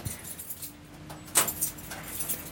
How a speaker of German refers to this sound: So, Schlüssel, Schlüssel.